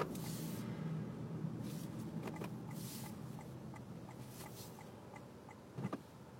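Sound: car driving past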